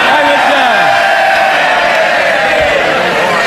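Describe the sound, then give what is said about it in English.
A loud crowd of Labour Party politicians in parliament cheers and shouts continuously, with rising whoops and jeers over a dense roar of chatter, steady throughout without a pause. “Very good to see the Labour Party in full voice cheering on Jurassic Park.”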